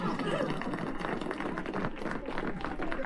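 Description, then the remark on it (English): An audience applauds steadily after the Grange Farm joke, a dense, even wash of many hands clapping at once that holds at a constant loudness for the full three seconds, with a faint murmur of voices mixed in. “What's that noise? Applause.”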